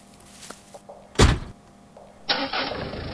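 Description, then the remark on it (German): A car door thuds shut, and about a second later an engine turns over and starts, settling into a steady rumble as the car begins to pull away. “Während die Leandra zu ihrer Verlobten fährt”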